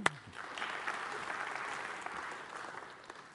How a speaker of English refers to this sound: That guy's migrated. Now that deserves applause. Yay!